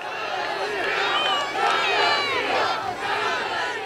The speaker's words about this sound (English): the November election was still top of mind for the crowd, which interrupted Perdue's speech with chants of Stop the Steal.